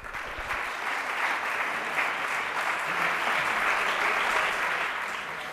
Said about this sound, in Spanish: Más aplausos para ….